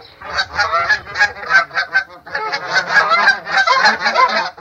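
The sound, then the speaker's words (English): A flock of geese arriving during a goose hunt honks loudly and continuously, many overlapping calls in a rapid, clamorous chorus that stays busy for several seconds, with no talking. “I'll be leading the goose hunt today. Look, here comes a bunch now.”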